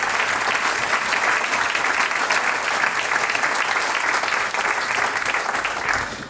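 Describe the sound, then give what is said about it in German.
Sustained audience applause as the mayor of Ilz and its cultural officer come onto the stage, a dense steady roar of many hands clapping at a constant, loud level for about six seconds, easing slightly only at the very end. “Meine Herren, ihr kriegt einen Applaus, bis herum seid, gell?”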